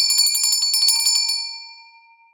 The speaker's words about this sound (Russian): Вдруг зазвенел серебряный колокольчик.